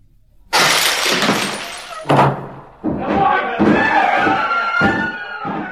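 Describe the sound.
A door is being violently broken down, with several loud crashing, splintering blows, mixed with agitated shouting voices.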